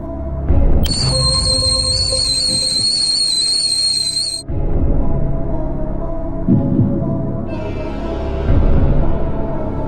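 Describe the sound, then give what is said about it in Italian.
A pressure cooker lets out a loud, shrill whistle for about four seconds, its piercing tone riding over hissing steam, then cuts off, leaving a low rumbling hiss that continues to the end. “Sta chi le una pentola a pressione.”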